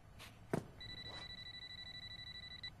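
A telephone rings with a steady, rapidly warbling electronic trill lasting about two seconds, clear, preceded by a sharp click or knock and faint background noise.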